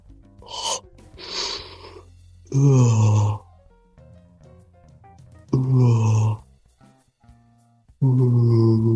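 A man makes three loud, low, drawn-out honking noises with his voice, each lasting about a second and spaced apart, after a couple of short breathy huffs over a faint background hum.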